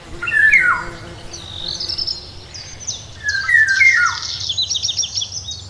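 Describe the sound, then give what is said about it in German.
A Eurasian golden oriole's flute-like, melodic whistled phrases ring out clearly, with other birds' higher chirping and twittering continuing steadily around it, no voices present. “Und der hat so einen ganz melodischen Klang, also wie Flöten.”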